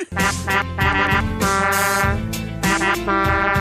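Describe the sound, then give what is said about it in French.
A loud, buzzy novelty horn blares a quick run of tooting notes, several short blasts in a rhythmic pattern with changing pitch, like a little tune, with no talking over it. “Hey, imaginez-vous donc que je me suis trouvé un nouveau klaxon, un nouveau sideline, ce qui fait que ça vient avec un nouveau klaxon.”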